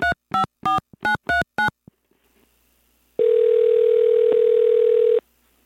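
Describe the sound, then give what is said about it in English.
Six quick, evenly spaced telephone keypad beeps as a number is dialed to call an automotive writer, a brief silence, then a loud, steady telephone tone holding for about two seconds before cutting off. No one speaks. “So I decided to pick up the phone and give some other automotive writers a call.”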